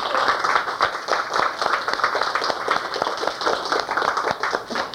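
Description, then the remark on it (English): A crowd at a club meeting applauds the club's editors steadily for about five seconds, many hands clapping in a dense, even patter with sharp individual claps popping out of the wash. “So I think we all owe an applause to our editors.”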